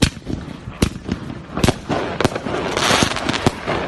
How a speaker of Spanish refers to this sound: Petardos para perturbar el sueño de los jugadores del Barça que van a buscar hoy la novena final de Copa de Europa del club.